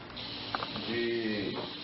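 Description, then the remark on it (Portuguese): Steady, grainy hiss like pellets trickling through a pau de chuva, the rain stick instrument of Brazilian indigenous peoples, here an endless rain stick, with a few brief clicks, a faint tonal murmur partway through, and an even level throughout. “do pau de chuva, instrumento pau de chuva dos índios brasileiros.”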